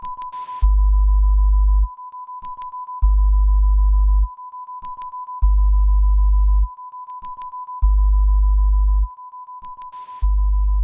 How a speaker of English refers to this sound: It was like, wow, this is so different, you know, because it was just sine waves and just a lot of empty space.